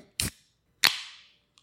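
A can of vodka seltzer is opened in an apartment: a short metallic crack, then a sharper snap followed by a fizzing hiss that fades over about half a second, ending with a faint click.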